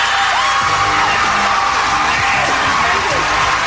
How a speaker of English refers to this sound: And the crowd goes wild.